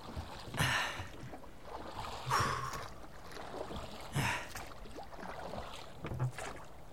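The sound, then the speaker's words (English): Water sloshes and splashes in regular surges as a father takes his children to an island in his boat, about four strong swells over a steady wet background, with no voices. “Dad takes the children to the island in his boat.”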